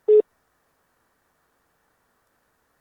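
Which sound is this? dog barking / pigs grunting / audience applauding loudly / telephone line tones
telephone line tones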